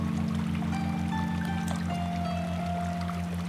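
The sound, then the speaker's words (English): Steady, continuous rush of flowing water, even throughout, with a low rhythmic throbbing hum and faint tonal whines beneath it. No voices. “As you listen to the water, what does she say in return?”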